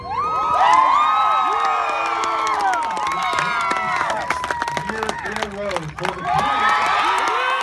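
A loud crowd cheers and shouts continuously at a 2015 high school state championship trophy ceremony as seven boys walk in front of the crowd to accept their school's trophy. Whoops, high-pitched yells and scattered clapping layer into a dense roar that stays strong throughout and drowns out the announcer's voice.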